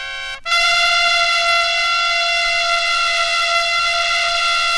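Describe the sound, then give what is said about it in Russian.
Guards blow long, thin trumpets: a piercing, brassy, loud blast that blares almost continuously after a brief opening note, a harsh sustained tone much like a car horn, with no one speaking. “Звук пронзительный, как автомобильный гудок.”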